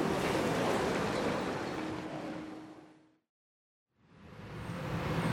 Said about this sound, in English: All right, the rain has returned a bit harder than before. And yeah, this could turn out to be a serious problem if it continues to be rainy.